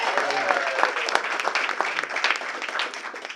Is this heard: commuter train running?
no